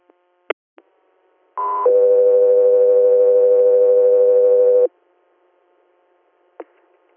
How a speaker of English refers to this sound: South 3 Air, stand by for tones.